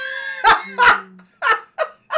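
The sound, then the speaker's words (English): A female dog named Marley snoring loudly: five rough, snorting bursts in quick, uneven succession, each a short noisy rasp with a breathy edge, and no talking over them. “She is so snoring. So loud.”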